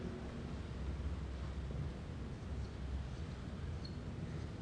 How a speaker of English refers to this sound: there was a strange noise outside that we haven't heard for some time. It's raining on the roof.